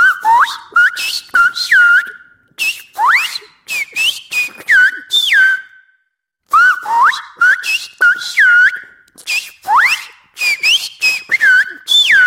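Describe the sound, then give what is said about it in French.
A person whistles loud, clear notes, sliding and swooping in quick phrases, pausing briefly midway before continuing, with no talking; a whistle from La Gomera in the Canary Islands. “Et je vais m'entraîner à siffler très bientôt.”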